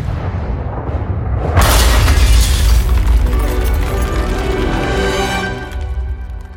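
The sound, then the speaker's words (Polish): Cannon fire from an artillery bombardment begun by the King of Poland erupts in a loud, sudden boom, followed by a heavy, rolling rumble and crackling debris that keeps thundering for several seconds with no voices. “Król Polski, który tylko czekał na ten znak, rozpoczął ostrzał armatni.”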